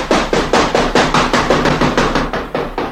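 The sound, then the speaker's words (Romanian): Fists and feet pound on the door of a house in a rapid, steady barrage of about a dozen loud, heavy thuds, each hit sharp and evenly spaced, with no voices. “Stam la îndoială dacă să nu iau la fugă, dar până la urmă mi-am adunat tot curajul și am început să bat de zor cu pumnii și cu picioarele în ușe.”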